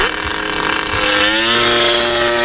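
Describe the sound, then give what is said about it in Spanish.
A Moto3 racing motorcycle engine roars loudly and steadily, then revs higher, its whining pitch climbing in the second half. No voices, just the continuous engine noise. “La respuesta correcta es Moto 3.”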